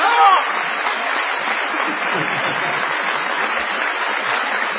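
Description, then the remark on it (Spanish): A large audience gives an ovation welcoming Patricio Bartón, clapping loudly and steadily throughout, a dense, continuous roar of applause with a brief voice at the very start. “Vamos a saludar con una ovación, que realmente el tipo se caiga de espaldas, a Patricio Bartón.”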